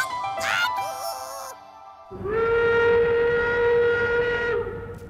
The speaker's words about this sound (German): Heute sind wir tatsächlich mit dieser alten Dampflok unterwegs. Und nicht nur das, die Geräusche der alten Lok werden zu Musik.